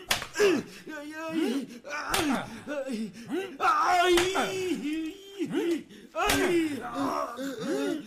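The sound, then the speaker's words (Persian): Whip lashes crack sharply about four times, roughly two seconds apart, loud, while a man who has been laid down and is being whipped to make him talk groans and cries out in pain between the strikes. “او را بخوابانید و انقدر شلاقش بزنید تا به حرف آید.”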